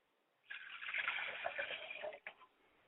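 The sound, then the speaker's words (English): Liquid is poured out steadily as a libation toward the south for about two seconds, a bright splashing trickle that ends with a couple of small final drips. “They say it is up and not down, so we pour to the south going up.”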